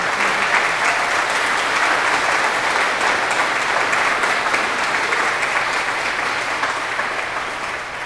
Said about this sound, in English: I think it's really important when someone hits 90 that we all give them a round of applause. Don't you agree? Yeah, they deserve it.